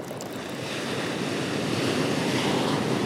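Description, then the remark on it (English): Steady rushing surf from Pacific Ocean waves washing onto a beach at Carlsbad, California, in peak summer, a broad continuous roar that swells slightly louder toward the end, with some wind noise and no voices. “Ah, that's the sound of the Pacific Ocean.”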